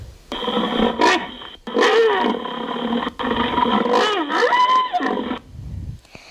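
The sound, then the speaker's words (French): A rhinoceros calls loudly in three long, wavering, harmonic bellows with brief pauses between them, ending with a short low grunt, played in an animal-sound guessing game. No one speaks. “Non, c'était le rhinocéros.”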